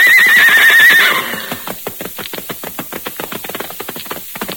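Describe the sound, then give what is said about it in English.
A white horse gives a loud, shrill neigh, then its hooves pound in a rapid, steady galloping rhythm that continues to the end, clear with no voices. “New adventure was ahead, and with a shout of defiance, he leapt the hills to dash ahead.”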